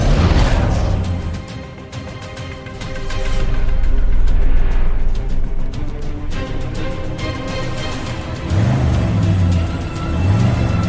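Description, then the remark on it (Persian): A car engine runs loud throughout, its pitch swelling and dipping as it revs several times, with a steady low rumble between the surges and no voices. “وایسا ماشینو خاموش کن، بیا بیرون.”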